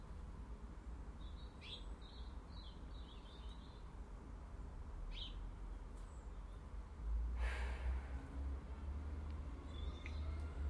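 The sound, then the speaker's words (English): Garden birds chirp in short, faint high bursts over a steady low rumble, with a brief rustling scuffle midway as a blackbird digs the border out onto the grass, foraging for natural food. Heard from an east-facing viewpoint in the garden. No one speaks. “Actually sitting here, the birds are more active.”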